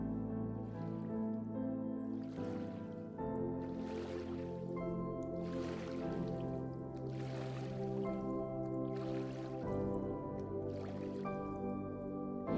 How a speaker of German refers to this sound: Jetzt kannst du das Plätschern des Wassers hören und du befindest dich auf einem kleinen Boot. Es ist Abend. Der Mondschein glitzert auf dem Wasser.